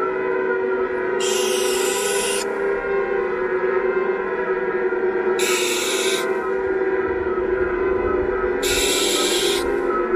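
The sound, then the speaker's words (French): A barn owl gives three harsh, hissing screeches, each about a second long and spaced a few seconds apart, over a steady low droning hum. “Hier soir, j'ai entendu l'oiseau de la mort passer.”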